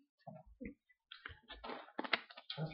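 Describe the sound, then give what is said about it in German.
Thin pages of a Bible being flipped while looking up Hebrews 12, a run of soft crinkling and rustling bursts over a few seconds, quiet and irregular, with no talking. “Hier muss man ein bisschen blättern, damit man wach bleibt.”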